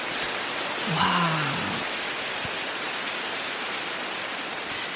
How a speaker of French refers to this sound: Oh ! Un bâton de pluie ? Mais qu'est-ce donc ? C'est ça, c'est quoi ?